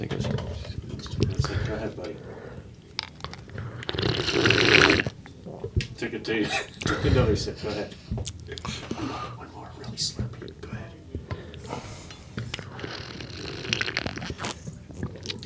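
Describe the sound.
Several deliberately loud, wet slurping sips from a cup come in short bursts, the loudest about a third of the way through, with quiet murmured voices underneath.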